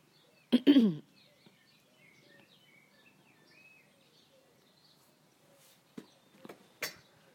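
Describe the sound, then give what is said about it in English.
Soft blackbird song warbles in fluty phrases through the background, opening with a sharp cough or throat-clearing and ending with a few louder knocks or breaths. “I love the blackbird song.”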